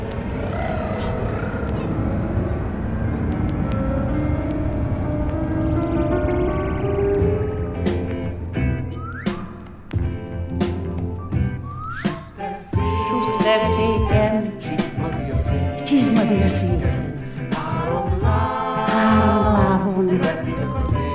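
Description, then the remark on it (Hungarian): Several voices, with children joining in, buzz and hum loudly together, imitating airplane engines in a pretend flight while seated on chairs, with a steady droning rumble that rises and wavers, then breaks into excited vocal sounds and sliding pitches. “És kapcsoljuk be a motorokat, berregjünk jó hangosan. Már emelkedünk is, mehetünk?”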